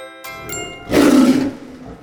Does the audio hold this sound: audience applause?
no